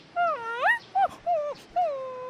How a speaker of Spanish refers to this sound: ¿Cómo estamos, Florecita? Flor, perrita desobediente.